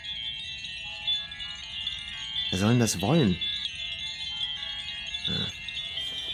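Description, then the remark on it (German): A sustained, bright electronic wind-chime tone from an electric wind chime, a white plastic box with a button, rings throughout, a shimmering layered chord that holds steady at moderate loudness while a person speaks briefly over it. “Das sind literally einfach weiße Plastikdosen mit einem Knopf, die dieses hässliche Geräusch machen.”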